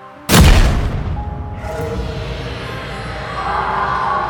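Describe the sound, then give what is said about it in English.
A sudden, sharp explosive crack bursts out at night, then gives way to a loud, continuous low roar that holds steady without letting up for several seconds. “The entire crew were woken from our beds that night by a sudden, explosive crack, followed by a seemingly unrelenting roar.”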